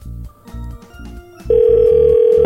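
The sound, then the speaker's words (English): A steady, loud electronic phone tone comes in halfway through and holds as an outgoing call rings out, over a low rhythmic thumping that pulses throughout. “Let's call him back.”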